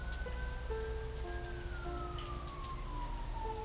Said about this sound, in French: Les orages s'éclaircissent et c'est la fin de la mousson.